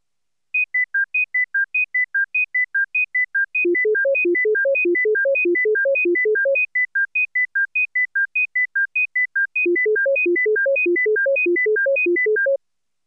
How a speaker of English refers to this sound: The three and six-tone patterns are alternated twice. Try to continue to hear the three-tone standard in the six-tone cycle.